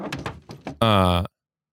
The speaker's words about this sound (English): What's that? Is someone knocking? I don't know. It sounds like...